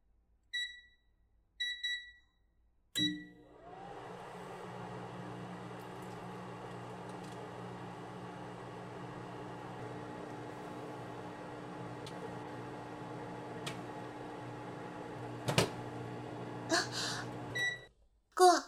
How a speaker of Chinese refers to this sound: 我不知道微波炉为什么会爆掉。我只是把盒装牛奶放进去加热了。